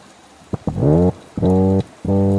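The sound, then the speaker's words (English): Three low, buzzing hums with a strong harmonic drone, each lasting about half a second, preceded by a couple of short knocks; a deep, boat-horn-like toadfish mating call, a low thrumming heard by Monterey residents in summer. “So a few years ago, Monterey residents were just puzzled by this low thrumming sound in the summer.”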